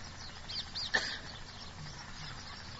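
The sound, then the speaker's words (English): Parrots give a few brief, high chirping calls clustered together, fairly faint, over a steady low background hum with no one talking. “The parrots are indicating that it's time for you to say something about the dumb or about the parrots.”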